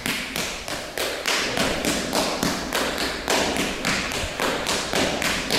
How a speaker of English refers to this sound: There they were doing it, it has to be said, very, very daintily. So in triplets, really, you do a step and a shuffle on the other foot, which is a two-tap on the toe, and then you change over and you tap on the other one.